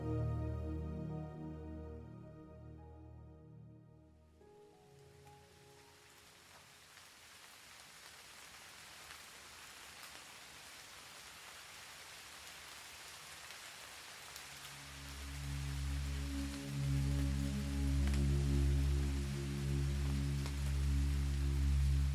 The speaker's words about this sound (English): The sound of rain falling gently outside your window reaches your ears. It's so soothing.